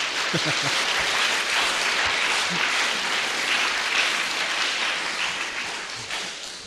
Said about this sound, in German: Vielleicht stünden wir mal auf. Schaffen wir das, einen Applaus zu geben?